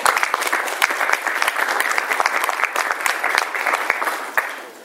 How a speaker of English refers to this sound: So with that, I'd like to thank my panelists and just a round of applause for them, please.